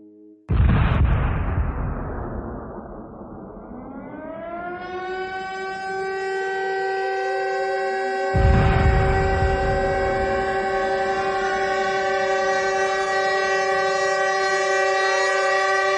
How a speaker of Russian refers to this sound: Это музыка, которая разносилась по всему городу. Она состояла из гудков паровых машин, сирен.